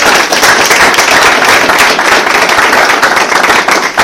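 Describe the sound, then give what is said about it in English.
A crowd breaks into sustained applause, dense rapid clapping that stays loud and steady for about four seconds before easing slightly at the end. “If we can give him a round of applause.”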